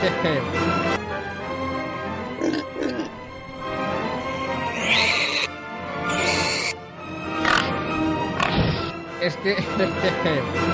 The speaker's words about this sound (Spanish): Y hemos puesto a Tchaikovsky, es que es un cerdo culto. Un cerdito culto. No oculto, sino culto.